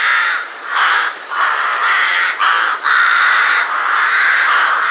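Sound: rook calling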